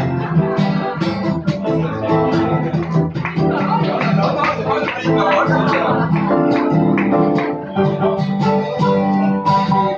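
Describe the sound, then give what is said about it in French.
A short instrumental musical bridge with dense, sustained harmonic tones and a gritty, effects-laden texture, playing at a steady, fairly loud level for about ten seconds with no one talking. “Petit musical bridge.”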